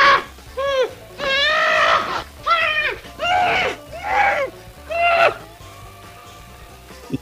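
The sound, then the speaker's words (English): A man, Curly, lets out a string of six or so of his famous wordless comic guttural vocal noises: loud, pitched whoops and warbles with swooping rises and falls, separated by short pauses, before trailing off. “Curly didn't have to say much because he could make you feel what the moment is by just some guttural noises.”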